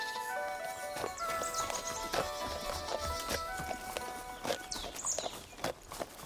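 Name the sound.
donkey hooves clip-clopping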